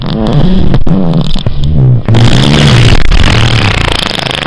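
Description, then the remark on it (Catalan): A long, loud fart sound effect of an ox: low, buzzy, sputtering blasts whose pitch wobbles up and down, with brief breaks between bursts and no talking. “En aquell mateix moment, el bou va fer un pet.”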